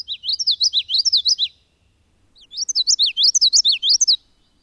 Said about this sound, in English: Near wet, shrubby thickets, you'll likely hear the territorial song of a very energetic warbler, the common yellowthroat.